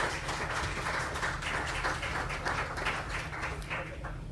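An audience applauds steadily for about four seconds, welcoming two lawyers from the law firm Spirit Legal to the stage before their talk on enforcing data protection through the courts: a dense, even wash of many hands clapping at once with no voices over it, tapering only slightly near the end.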